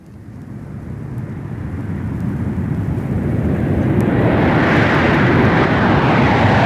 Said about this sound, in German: Flugzeuge sind laut und stören. Flugzeuge sind grossartig und faszinierend.